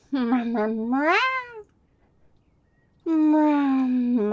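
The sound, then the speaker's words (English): A person imitates a cat with two drawn-out, rising meows, loud, separated by a short pause of near silence. “Meow. Right there. Meow. Little scritch. Meow. Meow.”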